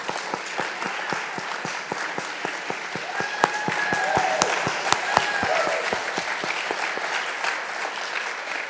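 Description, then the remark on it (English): A crowd of people clapping in a steady, sustained round of applause, dense overlapping hand claps with a few sharper ones standing out, lasting several seconds without speech. “So if we can just give a round of applause.”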